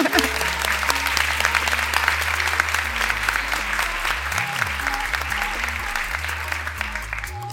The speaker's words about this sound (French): Vous pouvez vous applaudir aussi.